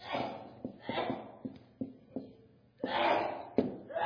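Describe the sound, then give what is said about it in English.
A run of sneezes: several sharp, breathy bursts come in quick, uneven succession, with gasping inhales between them. The last two are the loudest. “Bless you.”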